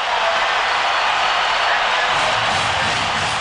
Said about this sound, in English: McGee grounding to God for the last out of the World Series. The Twins win it 4-2. Let's listen to this crowd.